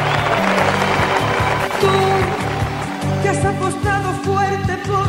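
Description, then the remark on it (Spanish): An audience claps steadily over the start of a song, with a pulsing bass beat and sustained melodic tones rising as the clapping gradually thins out. “Yo quiero pedir un aplauso para la madre de Lolita, para Lola Flores.”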